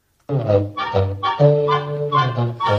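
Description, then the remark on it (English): Gus, Donald Duck's goose cousin in a Disney cartoon, honks in a quick run of loud, nasal, buzzy calls, about five or six bursts strung together with barely a pause, clear with nothing else behind them. “So in this episode, Donald Duck is visited by his cousin, who's called Gus, and Gus appears to be a goose or something.”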